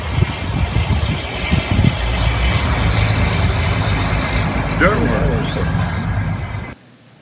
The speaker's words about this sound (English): This one has a sound as well. These trucks, they do rumble.